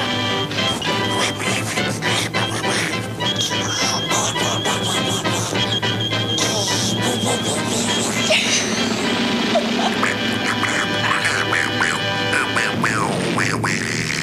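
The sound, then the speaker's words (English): A voice imitates Donald Duck, letting out loud, raspy, sputtering quacks that run almost nonstop and sound angry, layered over a busy, dense background. “But no one rivals the original voice of Donald Duck when it comes to sounding mad.”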